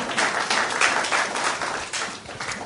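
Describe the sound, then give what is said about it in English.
An audience at a seminar claps together in a dense, steady burst of applause, a crackle of many overlapping hand claps that holds an even loudness for a few seconds with no one speaking. “So you should clap once again.”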